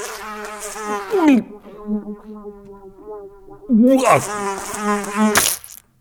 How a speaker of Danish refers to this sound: der er en flue herinde.